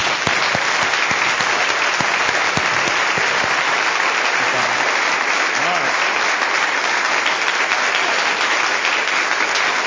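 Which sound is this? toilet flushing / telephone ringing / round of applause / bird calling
round of applause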